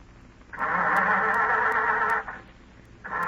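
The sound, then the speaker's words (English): A car engine churns as someone tries to start it: a steady, loud grinding whir with faint regular ticks, a brief pause, then the cranking kicks in again. No voices. “Go ahead, start it.”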